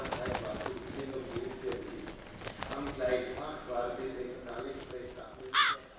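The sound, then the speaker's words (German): Ravens caw repeatedly in a busy, noisy setting, several harsh calls overlapping, with one louder, sharper caw ringing out near the end. “Ja, wo sind denn jetzt die 7 Raben gelandet?”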